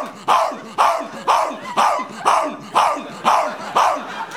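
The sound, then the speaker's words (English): A person imitates a dog barking out on a porch at 3 in the morning, letting out about eight steady, evenly spaced, loud woofs in quick succession. “Why don't I bark it up for no reason whatsoever?”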